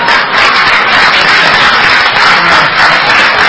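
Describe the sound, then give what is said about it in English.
A dense, steady round of applause from a crowd, loud, with many hands clapping at once and no break for the full few seconds. “How about a round of applause? Round of applause.”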